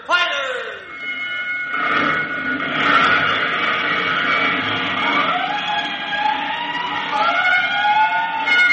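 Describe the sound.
Fire alarm bells and wailing emergency sirens sound loudly and continuously for a five-alarm fire call to all districts, overlapping with sweeping pitch rises and falls, amid a busy, noisy background with some voices mixed in.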